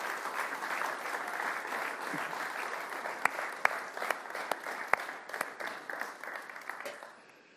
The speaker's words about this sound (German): Herzlich willkommen. Ihr dürft noch mal klatschen.